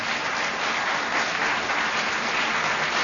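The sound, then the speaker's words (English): A studio audience applauds steadily for about three seconds, a dense, even wash of clapping with no voices over it. “You know, the audience sounds a bit frightened, don't you think?”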